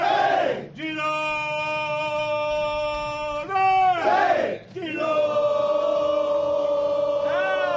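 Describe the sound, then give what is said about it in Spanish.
The Girona football team's huddle in their locker room bellows "Girona!" in unison: two long, sustained group shouts, loud and ringing, separated by a brief rush of overlapping cheers. “Este es el corrillo en el vestuario del Girona.”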